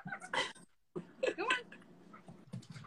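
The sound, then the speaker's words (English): Excited dogs that have been inside all day whine and yip in short, high-pitched bursts, some sliding upward in pitch, with brief pauses between the eager cries. “They've been inside all day. They're hyped up now. Bark at me.”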